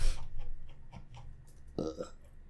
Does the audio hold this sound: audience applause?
no